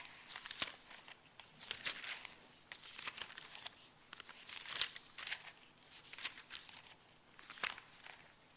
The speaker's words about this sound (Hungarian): És hogy már van egy új szövetségi példánk, én azt javaslom, hogy lapozzatok el velem a Mózes első könyvében.